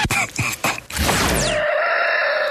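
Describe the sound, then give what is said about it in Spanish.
A loud rooster crows once in a stretched, warbling call, then a swooshing sweep gives way to a steady ringing tone, like a produced sound effect. “Es el gallo Radioactiva.”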